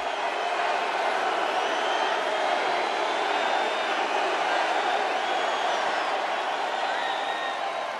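A large crowd at a Trump rally applauds without letting up, a dense, even roar of clapping and cheering with faint high whistles drifting through it, holding steady at full volume for the whole stretch.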